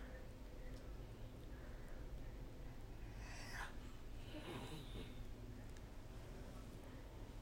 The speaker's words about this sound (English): I hear some snores in the background. My 2-year-old sleeping. That's how I was able to hop on real quick.